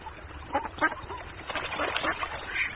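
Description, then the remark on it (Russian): Two ducks on a stream in a meadow quack in a short series of nasal calls, some overlapping, at moderate loudness with a soft background hiss and no talking. “Смотрит, на лугу ручеек протекает, на воде две утки плавают.”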